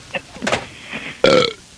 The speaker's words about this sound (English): Do the burp again, I like it.